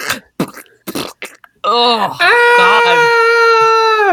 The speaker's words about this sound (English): What is that? It's someone screaming.